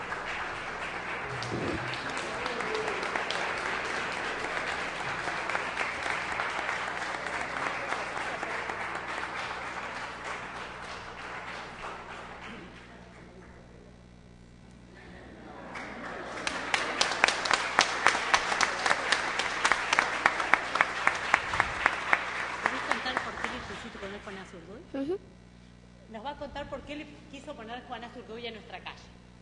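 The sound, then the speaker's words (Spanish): People applaud strongly for several seconds in a session in Tandil before a vote, honouring a citizen who gave a street its name; the clapping dies down briefly, then swells again into loud, rhythmic unison clapping before voices take over at the end. “que antes de votar hiciésemos que Manuel pasase y le demos un fuerte aplauso”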